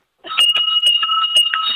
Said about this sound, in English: Is there an art to the bell ringing, or you just let it rip? There certainly is. What's the key? It's three oh yays, and you ring the bell above your head so it's loud and clear like dust.